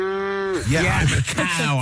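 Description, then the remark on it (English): A person imitates a cow's moo with a steady, drawn-out low hum that dips at the end, then breaks into quick speech for the rest of the moment. “Yeah, okay, you want a moo? I'll give you a moo. Perfect moo.”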